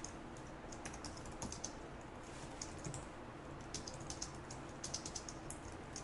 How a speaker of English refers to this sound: Catch up with me, and I'm going to start typing some new code in here.